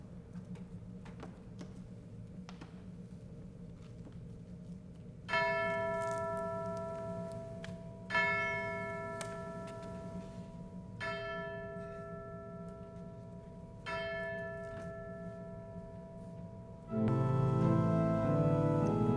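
Church bells ring in slow, evenly spaced strokes, about four resonant chimes each left to hum and fade, over a low background rumble that swells into louder noise at the end.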